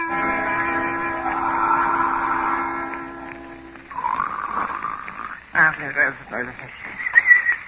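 A man snores loudly in long, rasping, droning breaths with a harsh buzzing tone, followed by rougher, sputtering snorts that rise and fall unevenly.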